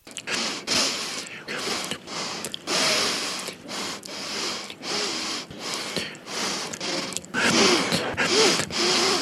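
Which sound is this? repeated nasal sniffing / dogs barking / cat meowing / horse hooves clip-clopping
repeated nasal sniffing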